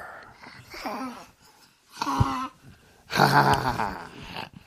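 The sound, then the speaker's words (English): A person reading The Gruffalo book aloud growls like a gruffalo in three rough, throaty bursts, the last one loudest and longest, with short pauses between them. The voice is fairly loud. “And growl like a gruffalo.”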